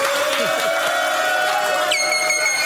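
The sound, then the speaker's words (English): A crowd cheers and shouts in a steady, dense roar, with a few high sustained tones and whistle-like sounds rising through the noise near the end. “I mean, let's make some noise, you know, just for him being rich.”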